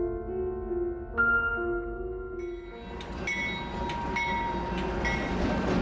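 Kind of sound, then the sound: vehicle, train on railway tracks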